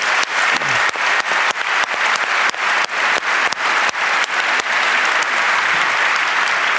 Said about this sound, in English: I just want to give him another round of applause for making this human rights observation project.